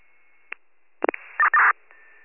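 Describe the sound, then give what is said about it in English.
A garbled radio transmission comes through as beeping: a click, a few crackling bursts, then two longer electronic tone blasts and a faint steady tone, all thin and band-limited, with no intelligible voice. “If you were trying to come through, that one didn't come through. It was just a beeping.”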